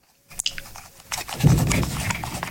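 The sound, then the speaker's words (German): The squeaking scroll wheel of a cheap, aubergine-coloured Bluetooth mouse being turned, giving off a fast run of dry, scratchy ticks and faint squeaks that start sparse and grow denser and louder, with no talking. “Kann man das hören? Das Drehrad quietscht.”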